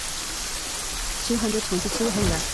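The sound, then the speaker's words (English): Steady rain hisses evenly throughout, a constant wash of falling drops. Partway through, a voice speaks over it briefly. “Problem is, it's still raining, and I'm waiting for this rain to go away.”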